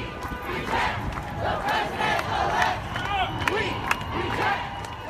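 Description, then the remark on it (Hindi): A crowd of about 2,000 protesters in front of Trump Tower in New York chants slogans against president-elect Donald Trump in unison, a dense roar of many voices rising and falling rhythmically, with sharp sporadic clicks or claps cutting through the steady mass of shouting. “New York स्थित Trump tower के सामने 2,000 लोगों की भीड़ ने ट्रंप के खिलाफ नारेबाजी की।”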